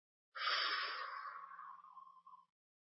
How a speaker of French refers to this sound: Alors maintenant, vous cessez le tapping et vous prenez une bonne respiration lente et profonde.